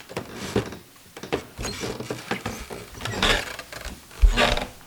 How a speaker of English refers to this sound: Now, how about those creaky steps leading upstairs?